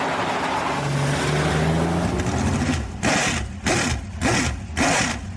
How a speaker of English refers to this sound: It was there that Jeff climbed behind the wheel for the first time, and a truck helped push start the massive motor.